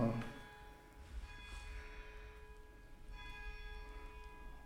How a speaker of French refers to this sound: Vous entendez les cloches? Non, pas encore. Si, ah si, moi je les entends pas, j'entends mal.